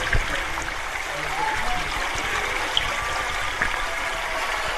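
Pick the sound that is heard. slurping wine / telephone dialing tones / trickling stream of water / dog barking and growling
trickling stream of water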